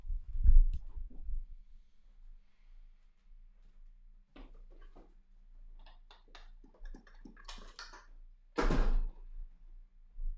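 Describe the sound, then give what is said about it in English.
A chair is slammed or knocked over with a heavy thud, followed by scattered scraping and clattering and then another loud bang near the end. “I hope that fucking chair broke.”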